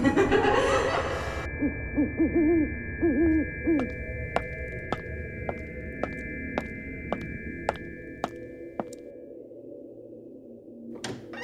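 A little owl hoots a few short, wavering calls near the start, then a steady run of sharp ticking clicks continues over a sustained high tone amid singing crickets, with no voices.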